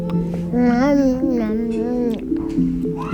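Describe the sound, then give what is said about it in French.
Infants under a year old babble in the Cérep Fimentin crèche, a daycare nursery just below the Baby Lab, their high, sing-song voices rising and falling in playful runs over a steady background hum. “C'est avec ces paroles en tête que je suis allée passer une matinée dans la crèche Cérep Fimentin qui se trouve juste en dessous du Baby Lab que dirige Erika Parlato Oliveira.”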